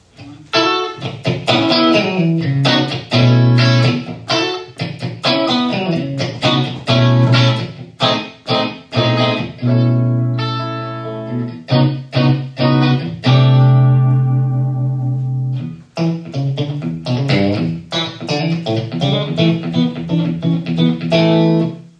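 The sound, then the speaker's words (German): An electric guitar plays a continuous melodic phrase drenched in delay and reverb, notes ringing and echoing into each other, loud with no talking. “Auch da versuche ich nicht ständig neue Effekte, sondern ich suche mir ein schönes Delay. Ich suche mir irgendwie ein bisschen Hall, weil ganz trocken hat auch seinen Charme.”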